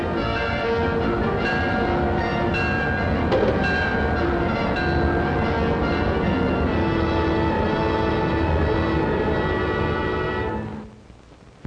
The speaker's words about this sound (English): Now the Clipper goes speeding under electrical power. We're in a new world of railroading, a realm where 100 thunderbolts of Jupiter are harnessed to turn the wheels of trains.